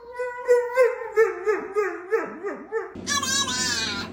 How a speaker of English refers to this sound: Hey, we don't bark this early.